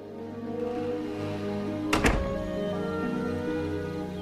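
A woman going back inside softly closes her door, a single soft, muffled thunk midway through, over a steady bed of sustained musical tones that continues before and after.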